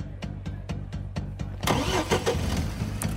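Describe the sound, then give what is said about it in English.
A car's starter cranks in a steady rapid rhythm for about a second and a half, then the engine catches and roars to life, settling into a rough idle, fairly loud. “I get in my car and hightail it down to the Los Angeles courthouse”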